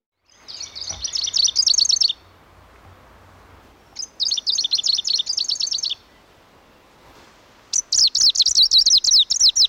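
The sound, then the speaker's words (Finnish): A greenish warbler sings three short, rapid, high-pitched bursts of jumbled notes, each about two seconds long, separated by brief pauses, loud against a quiet background. “Idänuunilintu on yksi monista.”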